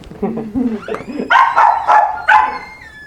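A small female Yorkshire Terrier yaps in a quick burst of four sharp, high-pitched, loud barks, following a few seconds of indistinct talking in the background.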